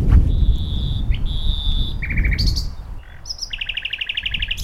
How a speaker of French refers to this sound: Que me dit ce rossignol? Il me dit, ne pleure plus, avance mon garçon, avance.